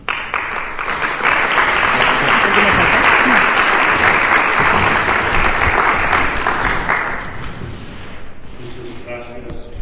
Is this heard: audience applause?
yes